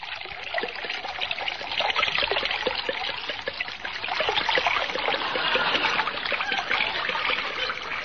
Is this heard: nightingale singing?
no